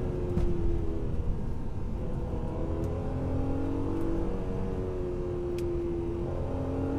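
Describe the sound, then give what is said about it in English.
A normally aspirated engine in an old car pulls hard up through the gears, its tone rising and dropping at each shift, loud with a steady throaty drone and no one talking. “It's a lovely sounding engine, all normally aspirated.”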